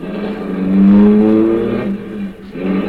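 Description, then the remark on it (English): A car engine revs up and pulls away, its droning hum swelling loudly for a moment, then easing off before rising again near the end. No voices are heard. “Then we drove on.”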